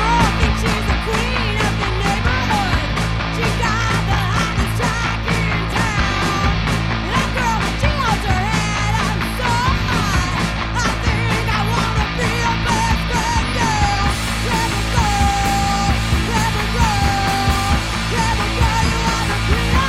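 A loud, raw riot grrrl punk rock song plays at full tilt on She Rose Radio, with dense distorted guitars, pounding drums and a screamed female vocal cutting through the noise.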